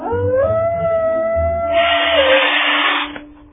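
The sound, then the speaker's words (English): A voice imitates a dog howling: one long, wavering, sustained howl that rises and slowly bends in pitch, fairly loud, followed by a brief burst of hissy noise. “And on the way, learn how to bark like a real dog. I can bark. And here's howling.”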